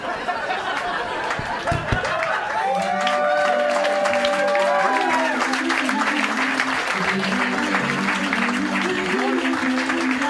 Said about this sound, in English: There's a big applause, and he goes, oh, yeah, and we'll sign.